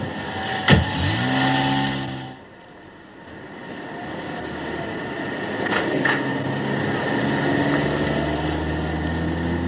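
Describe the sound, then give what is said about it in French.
A car engine revs with a rising whine and a sharp knock near the start, then settles into a steady rumble of road and engine noise, with a couple of brief clunks later. The car, Balin's, is being driven to the sea. “Tu as pris la voiture de Balin, là ?”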